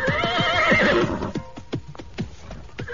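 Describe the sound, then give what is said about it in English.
A horse gives a loud whinny for about a second as its rider pulls it up and dismounts, followed by a steady series of hoof clops as it shifts and walks on hard ground. “I pulled up my horse and dismounted.”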